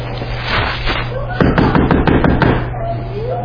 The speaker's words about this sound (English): Who's at the door? Can anybody come down? Are we supposed to go get them? Y'all supposed to be going to get these. Who just got out? Why is somebody knocking on the door?